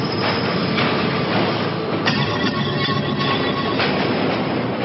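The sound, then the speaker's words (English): A New York City subway train rolls along the rails, a loud, steady roar of wheels and rumble with a brief sharp clank partway through, no voices. “Light bulbs filled with bacteria were dropped in front of trains and down ventilation shafts to test how far the bacteria would spread through the subway system.”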